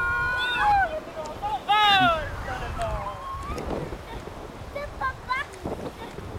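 Strong wind roars and buffets the microphone throughout, a steady low rumble with gusts, while high honking, wavering calls ring out over it in short bursts.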